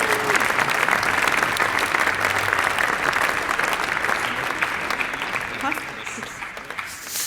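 Sustained applause from an audience, a dense steady clatter of many hands clapping at even loudness for several seconds before easing slightly at the end.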